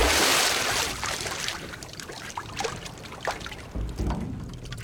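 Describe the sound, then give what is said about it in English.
A dead chestnut mare is lowered into a cauldron of boiling water with a heavy splash, followed by continuous sloshing and churning with scattered drips and gurgles. No one speaks. “places the dead horse into the boiling water.”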